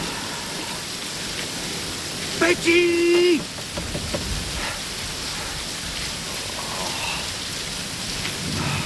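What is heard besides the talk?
pouring rain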